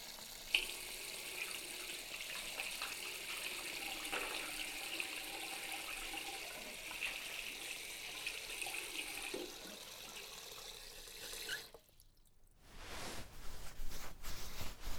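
Running water from a tap pours steadily for about twelve seconds, a continuous hiss and splash as soap foam is rinsed off the hands, then it briefly cuts off before another burst of water sounds.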